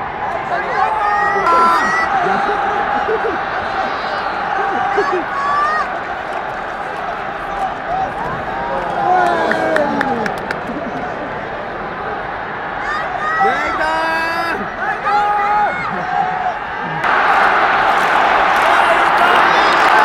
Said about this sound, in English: Wow, this crowd has come alive for Naito. Naito just survived the Rainmaker